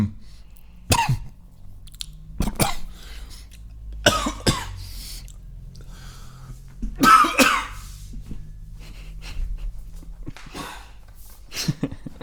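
coughing fit

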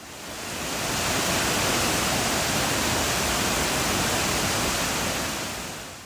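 waterfall rushing

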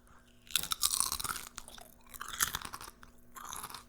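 crunching potato chips

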